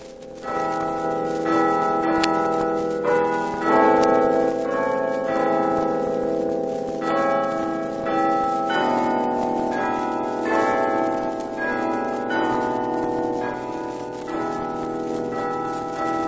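signal or alarm, carillon bells ringing

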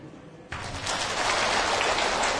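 crowd, audience applause

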